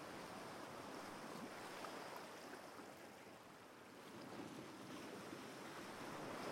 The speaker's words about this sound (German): Das hier ist dein eigener Strand, an dem du die Sonne, den Wind und das Meer genießen kannst.